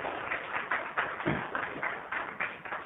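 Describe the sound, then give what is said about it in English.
A roomful of people applauding a colonel's comments at a meeting led by a chair, a steady patter of overlapping claps with no speech, at moderate volume and slightly muffled. “As a matter of decorum, we generally don't allow clapping.”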